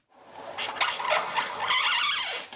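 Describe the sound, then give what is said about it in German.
Styrofoam packaging (Styropor, also called Airpop) being cut or bent by hand gives off a continuous squeaky, creaking scrape, high-pitched and fluttering in short surges for a couple of seconds, with no voices. “Man kann das Material schon am Ton erkennen, wenn man es schneidet oder mit den Händen biegt.”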